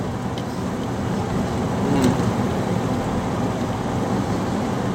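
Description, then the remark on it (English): A truck full of sheep rumbles past with a deep, steady roar that swells briefly at its loudest moment before settling back into a continuous low drone, with no one speaking. “a truck full of sheep, I think it was.”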